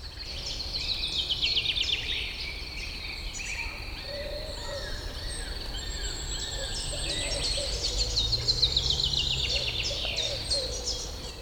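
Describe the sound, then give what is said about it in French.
Birds sing and chirp continuously in a wooded setting, several overlapping calls and trills, with a steady insect-like buzz and soft ambient rustle underneath throughout. “La foule des arbres et des oiseaux vous accueille.”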